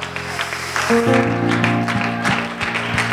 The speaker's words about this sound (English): Oh, why don't we applaud the Lord right now for his goodness?